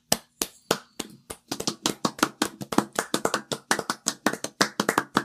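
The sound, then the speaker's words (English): Applause starts with a few scattered, sharp hand claps, then quickens into brisk, overlapping clapping that keeps up steadily for several seconds, with no voices. “Here, let's round of applause”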